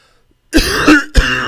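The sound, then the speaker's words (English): Two loud, raspy coughs follow each other quickly after a moment of silence, the first one longer and rougher, with no talking; the two coughs are a signal during a test meaning 'please double check my answer'. “2 coughs.”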